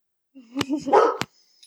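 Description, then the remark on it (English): A dog gives a quick burst of barks and whiny yips lasting about a second, clear, followed by a faint short yelp. “Obviously, the dog has something to weigh in here on the Apple Watch.”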